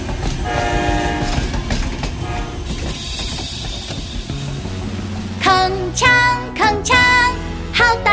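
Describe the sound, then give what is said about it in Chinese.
A toy train rolls along with a steady clattering rumble and a long horn tone, then sounds three short, bright, swooping toots. No one speaks. “小火车身体长，奔向前到远方，载着爷爷载着奶奶来到我身旁，铿锵铿锵，好大的声响”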